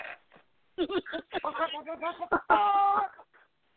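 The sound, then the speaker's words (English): A rapid series of agitated, angry chicken clucks, loud, building into a drawn-out squawk near the end before trailing off. “Let's call it the pissed off chicken.”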